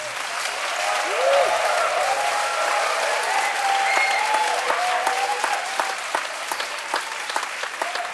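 Sustained, loud applause from a concert audience welcoming Amis performers and their family onto the stage, a dense steady clatter of many hands clapping for the full stretch, with faint tonal murmurs and cheers mixed in beneath it.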